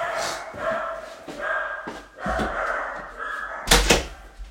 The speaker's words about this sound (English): Let me close my door, sorry.